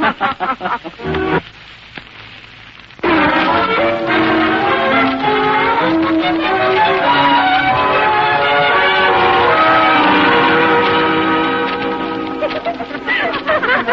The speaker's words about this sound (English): There goes the second bell.